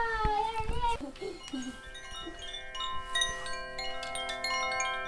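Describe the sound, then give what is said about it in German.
A Koshi wind chime that hangs in a daycare (Kita) group is moved to calm things when it is too loud, its bright, shimmering metallic tones striking in a loose, irregular cluster and ringing on in long overlapping decays, with a child's brief voice and rustling at the start. “Das ist so ein Koschi, das hängt in der Gruppe. Und wenn es zu laut ist, dann kann man das bewegen und dann hört man die schönen Klänge und alle Kinder denken, ich muss mal darauf achten, dass ich wieder ruhiger werde.”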